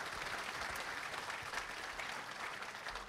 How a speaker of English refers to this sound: Please give our speakers one more round of applause. Appreciate them coming out.